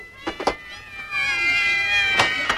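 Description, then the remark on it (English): Cats in the trees meow and yowl in a drawn-out, wavering chorus, several high, harmonic cries overlapping, with a few sharp bursts at the start and end. “Now that I put Limber up there to get rid of the starlings, your trees are full of cats.”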